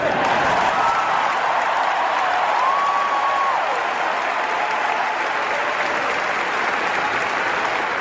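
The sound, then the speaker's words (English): A large stadium crowd roars and applauds continuously, a dense wash of clapping and cheering at steady high volume throughout, with a faint whistle rising above it partway through. “And I hope in the second half you'll get even louder and cheer harder.”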